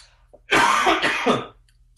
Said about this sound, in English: Hold on a second. I got an awful cold. Do you mind if I do a little coughing?